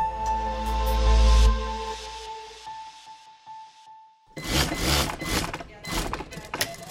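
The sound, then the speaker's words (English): An industrial sewing machine inside a factory, making clothing, clatters in fast, rhythmic mechanical bursts, loud and busy, following a deep thud with a fading low hum at the start. “An industrial sewing machine cranking out something to wear inside a factory.”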